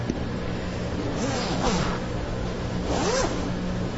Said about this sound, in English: Yes. A zipper? A zipper.